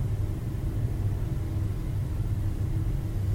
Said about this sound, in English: The flow of the breath, the warmth of the dojo, even the noise of the traffic outside can break us back to the now.